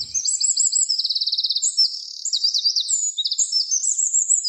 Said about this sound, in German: Das war der Zaunkönig.